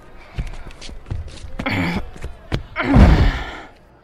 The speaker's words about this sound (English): Now jam the bench in there so it blocks the door.